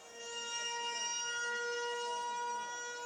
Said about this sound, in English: A 74-second siren was sounded across the West Bank at 12 noon local time, marking the 74 years that have passed since their Nakba, the catastrophe.